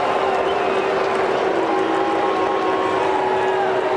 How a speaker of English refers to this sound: So after that smattering of boos and cheers, the reason he says what the Ohtani is that you could audibly hear Tanner Bibee say WTF after that home run that just got over the left field wall.